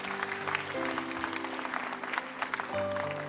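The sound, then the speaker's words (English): An audience claps steadily for a man who has come up front, a dense crackle of many hands spread across the whole clip, with sustained keyboard or organ chords holding underneath. “Just give him a hand clap.”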